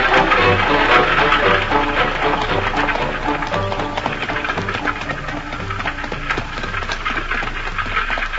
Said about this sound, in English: looks like you and I are alone in going to church behind the horses this morning. We'll take the light rig and give our high step and Ruby a little exercise.